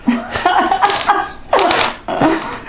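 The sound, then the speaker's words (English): Construction drilling comes in four loud, buzzy bursts with short pauses between them, each rasping blast wavering in pitch so it sounds oddly like a fart. “Man, are the listeners going to get a kick out of this, because basically that drilling sounds like massive farts coming from your head”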